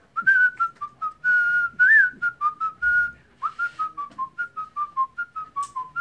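A cheerful whistled melody carried by a single clear whistler, with bouncy, clipped notes in a steady rhythm and a few sliding pitches, close and fairly loud with no voices.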